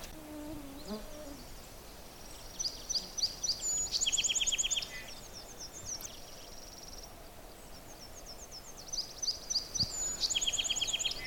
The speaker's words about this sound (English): That was the song of a song sparrow. Song sparrow songs are pretty variable, so kind of tough to characterize them. And you're as likely to hear a song sparrow at the edge of your yard or on a brush pile that you've made as out here.